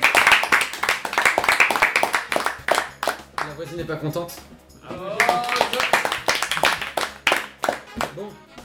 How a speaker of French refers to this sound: Ah, applaudissements. On applaudit tout.